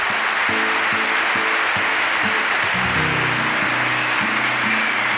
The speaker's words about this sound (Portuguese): Gostaria de pedir o vosso aplauso também para a equipe técnica.